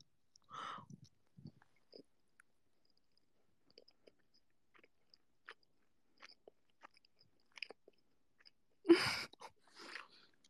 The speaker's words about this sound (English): Chewing ASMR. I'm really curious about the sound quality now. I didn't expect you guys to be able to hear me chewing. Oh my goodness.